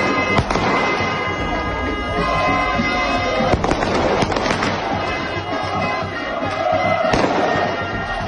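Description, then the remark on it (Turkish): Fireworks and sound bombs thrown by Bursaspor fans in front of the hotel where Ahmetspor players stayed, the evening before the match, bang repeatedly over a continuous roar of crowd chanting, with sharp loud explosions punctuating the dense, chaotic din throughout. “Ahmet Sporlu oyuncuların kaldığı otelin önünde toplanan Bursa Sporlu taraftarlar otele havai fişek ve ses bombaları atarken bir yandan da ne mutlu Türk'üm diyene diye tezahürat yaptılar.”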